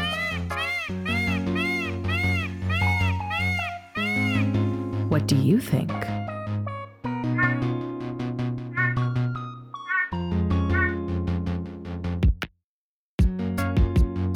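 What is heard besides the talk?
peacock call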